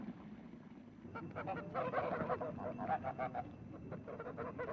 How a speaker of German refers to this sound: Warte, ich jage erstmal die Gänseviecher hier weg. Aber lass doch die braven Tiere.